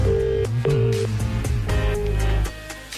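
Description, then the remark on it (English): An outgoing phone call from the Today FM radio studio to the CSO ringing on the line, steady electronic tones broken into a few short bursts, heard clearly with no one speaking. “Let me call my stats guy. Okay. It's to the CSO we go. Let's go to the CSO. Hey, it's ringing.”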